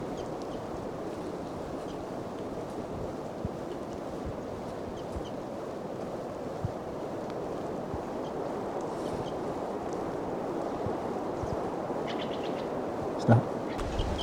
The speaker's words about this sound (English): Wildbird's calling louder as the wind blows more and the rain continues to fall.